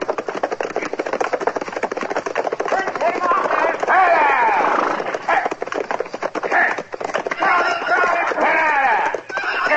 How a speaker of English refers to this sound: Well, somebody sure riding up front seat awful fast, ain't they? Yeah. That's a runaway horse, Chester. Come on, let's catch him.